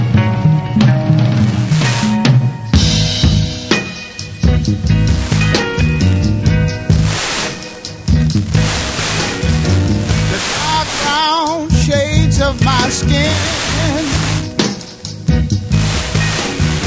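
A soul song plays at full, steady volume, with a warm bass line, layered band instruments and a singer's wavering, held notes rising over the dense arrangement.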